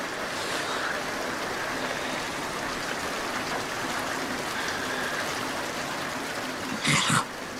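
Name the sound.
rain falling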